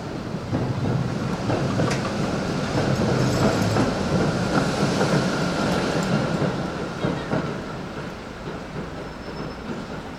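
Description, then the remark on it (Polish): Wheels rolling over tram tracks make a steady rumble with faint rhythmic clacks, holding loud throughout and easing slightly near the end. No voices. “Oczywiście, jak jest gładka nawierzchnia, a jak czuć te tory tramwajowe cały czas pod kołami.”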